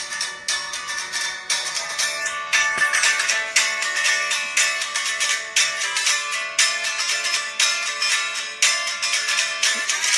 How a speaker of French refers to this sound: Donc le départ de la chanson, c'était sur mon téléphone, c'est ça. Ça c'est vraiment une guitare électrique contre le téléphone.